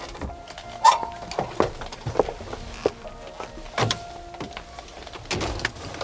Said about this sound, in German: Peter parkte seinen Wagen vor dem Gebäude und die drei Fragezeichen stiegen aus.